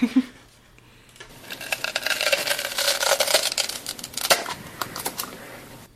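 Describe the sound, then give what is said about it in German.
Someone opening a Nutella jar: a close, continuous crackling and crinkling as a seal is slowly peeled back, with dense ticking bursts over several seconds and no voices. “Ihr müsst euch eher den Frühstückstisch vorstellen. Wenn man die Müsli-Packung aufmacht. Nein. Okay. Wenn man beim Nutella genau.”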